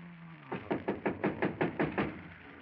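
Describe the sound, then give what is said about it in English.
A neighbour knocks on a door in a quick, steady series of about nine knocks, evenly spaced and fairly loud, rapping out in one continuous burst with no voices. “Somebody at the door. Better be quiet.”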